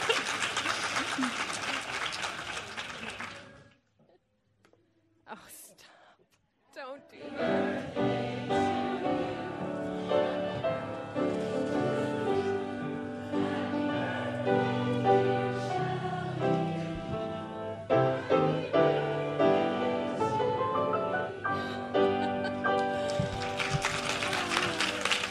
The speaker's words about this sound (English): So let's give her a round of applause as she comes up.